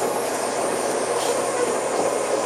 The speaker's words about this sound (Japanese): この電車は新宿駅到着後車内点検を行いまして車庫へ改装いたします。引き続きご乗車できませんのでご注意願います。